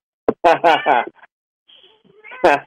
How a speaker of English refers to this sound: Now, you got it wrong, cat. It's happy birthday, not meow. He doesn't have a very good vocabulary.